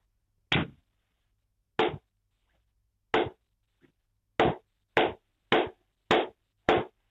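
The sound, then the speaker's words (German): Eight sharp hand claps tapping out the rhythm of a song for a caller to guess, in an uneven rhythm, spaced apart at first and then coming quicker in a steady run at the end, with no talking. “dann, was glaubst denn du, wie geht der Rhythmus? Soll ich ihn einfach klatschen, ne?”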